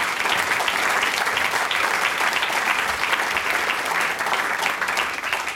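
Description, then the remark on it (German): A crowd in Karlsdorf applauds steadily to welcome Mayor Manfred Komaritzki onto the stage at a singers' and musicians' gathering, a dense, even wash of clapping that stays loud and unbroken for several seconds with no voices over it. “Also es ist alles sehr, sehr stimmig hier in Karlsdorf und das freut auch einen, den ich auf die Bühne bitten darf, nämlich den Hausherrn sozusagen, mit einem großen Applaus, Herr Bürgermeister Manfred Komaritzki.”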